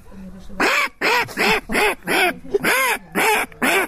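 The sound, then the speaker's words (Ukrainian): A person imitates a mother duck's quacking with their voice, about seven loud, nasal quacks in a steady, rapid rhythm, with no other talking. “А мама утка.”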